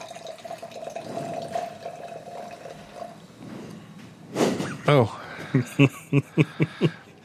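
Fever-Tree Mediterranean Tonic water, fresh from the can, is poured into a glass, a steady gurgling fill with fizzy hiss, followed by a burst of short rhythmic vocal exclamations like laughter.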